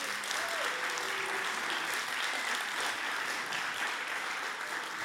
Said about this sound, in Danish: Skal vi ikke lige klappe af Frode Får og Mette Bundekone?